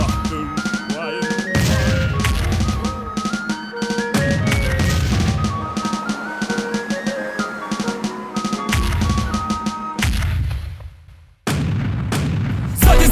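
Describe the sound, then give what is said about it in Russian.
A volley of ship's cannon fire, a return shot from all guns of a Spanish ship: several loud, heavy booms go off in irregular succession, forceful, over a continuous melodic music bed, with a brief lull near the end. “Так сделайте же ответный выстрел из всех орудий!”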